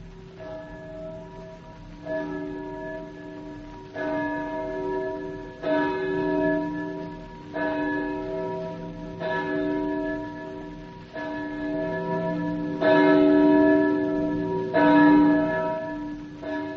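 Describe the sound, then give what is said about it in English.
A church bell tolls slowly and steadily, about nine strikes spaced roughly two seconds apart, each ringing out with a rich, lingering hum that overlaps the next. No voices are heard. “And therefore, never seek to know for whom the bell tolls. It tolls for thee.”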